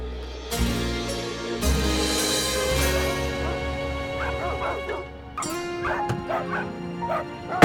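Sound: dogs barking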